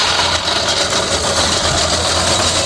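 A small rotary blade lawnmower engine runs steadily and loudly, a continuous droning rumble with a buzzy, hissy high end. No voices are heard.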